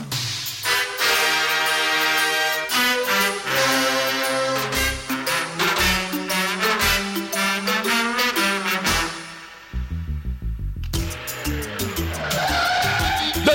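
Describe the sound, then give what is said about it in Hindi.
Tires squeal loudly in long, wavering high-pitched screeches as a car skids, the shriek sliding in pitch before a brief dip and a rougher, noisier skid at the end. “अरे अरे अरे अरे, देख के चला भाई।”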